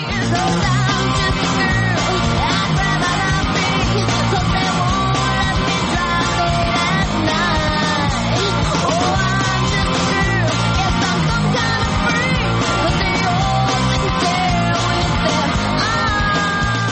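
A loud 1990s alternative rock song with a female lead vocal over a full band, drums and guitars driving steadily, playing continuously and close up for the whole stretch.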